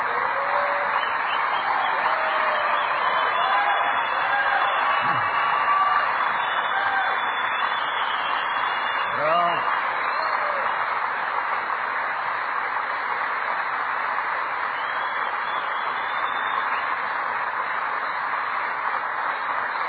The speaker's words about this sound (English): And you've heard this story so often, that's what the applause is about. I'm still alive and well, and that's why they're applauding me.